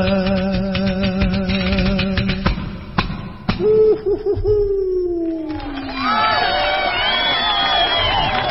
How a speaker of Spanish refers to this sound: Ese ujujujú parece nuestro. Eso se llama turucho en Galicia. Dicen que ese tipo de gritos, que tienen algo que ver con las batallas y las guerras primigenias que se empleaban para asustar al festejo, al oponente, para envalentonarse.